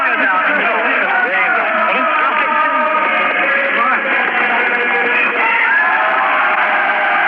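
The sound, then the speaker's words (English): A large crowd in London, behind barricades with Union Jacks and Union Jack hats, cheers Mrs. Thatcher in victory, many voices yelling and whooping together in a steady, loud roar with a thin, broadcast-like quality. “There were Union Jacks and Union Jack hats and cheers of victory and God save the Queen.”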